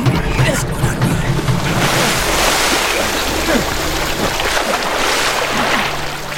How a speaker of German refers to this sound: Kippt die letzten Wasserladungen nach unten.